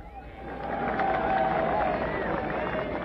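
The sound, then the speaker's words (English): A crowd applauds steadily for about three seconds as a musician is introduced, dense overlapping clapping mixed with cheering voices and a high whistle-like tone, holding loud throughout. “And I can tell from your applause he needs no further introduction.”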